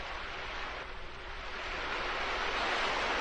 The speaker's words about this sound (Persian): طوفانیه. موجهای دریا با شدت به طرف ساحل میان.